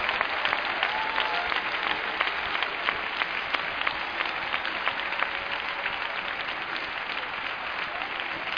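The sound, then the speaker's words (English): A church audience claps their hands in praise in a dense, steady burst of applause that holds at an even loudness for several seconds, with no clear talking over it. “If you do believe it, clap your hands and give praise, because you're a part of the unconquerable church.”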